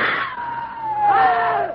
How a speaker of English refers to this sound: It's flying at us. Scream again. Make noise.